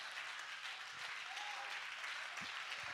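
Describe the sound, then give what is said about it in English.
A church audience claps their hands to Jesus, producing a dense, continuous wash of many overlapping claps that holds steady in loudness from start to finish with no distinct individual beats. “Oh, somebody clap your hands to Jesus.”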